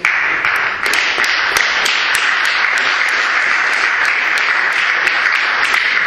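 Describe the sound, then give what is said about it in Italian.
Sustained audience applause as audience members vote 'no' in a poll by clapping, a dense wash of many hands clapping steadily at an even loudness for several seconds, with a few sharper claps standing out and no talking. “Allora, prego, i no, applaudite.”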